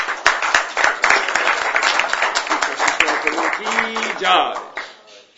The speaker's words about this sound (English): So let's have a round of applause for him.